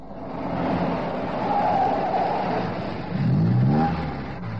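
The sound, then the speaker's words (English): The small, unmarked car of a murder and robbery squad rumbles steadily, its engine pitch rising and falling as it moves, then swelling briefly near the end before settling as it pulls up several yards from a house on Blackburn Road. No voices. “They both stop several yards from the house, where the small, unmarked car of the murder and robbery squad pulls up.”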